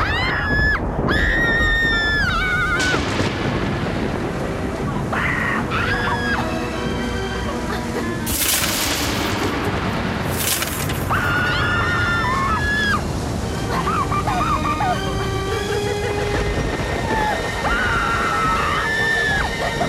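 Two voices scream together under a bed in long, wavering, loud cries, rising and falling over a dense rushing background for the whole stretch.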